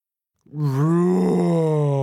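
A human voice imitates the roar of Rex, a big dinosaur in a story: one loud, sustained, low groaning tone that starts abruptly after a short silence and holds steady, slightly rising and falling, for over a second and a half.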